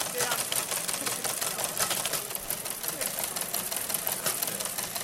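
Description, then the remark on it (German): An old teleprinter (telex) in the Blinken Area at the BCC, hooked up to receive SMS text messages and print them out, clatters steadily while printing, a dense rapid mechanical rattle of striking keys running throughout at even loudness, with faint voices murmuring underneath. “Es ist eigentlich ein alter Fernschreiber, den wir jetzt hier angekoppelt haben, dass man da SMS hinschicken kann und der druckt die dann aus.”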